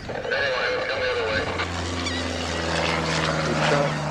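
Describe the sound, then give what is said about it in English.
A small Cessna propeller plane drones overhead along a Jersey beach shore, carrying volunteers who count birds; its steady low engine hum settles in after a moment and holds over a busy, noisy outdoor background. “Here comes the plane, Clive.”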